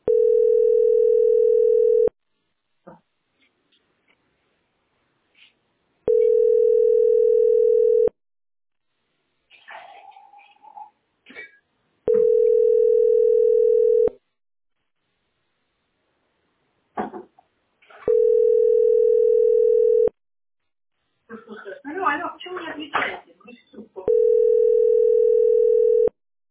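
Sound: telephone line tones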